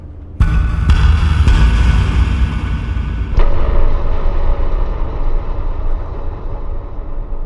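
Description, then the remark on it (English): Loud metallic banging inside a ship, in a poorly kept passage with puddles of water: about four heavy, sharp clangs in the first few seconds, each ringing out into a long, echoing rumble that keeps droning between hits. No one speaks. “And as we moved along, we started to hear this incredibly loud metallic banging.”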